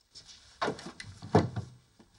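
A door is locked behind a person and a bag is set down on a collapsible table in a secret room: a few wooden knocks and clicks, then a soft thump with light rustling, in quiet surroundings.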